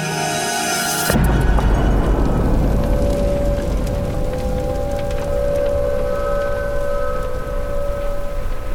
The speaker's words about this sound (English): As I pull the doors shut, I can hear the dizzying screech of a falling bomb.